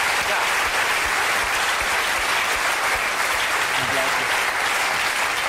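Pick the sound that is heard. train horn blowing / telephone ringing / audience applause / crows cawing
audience applause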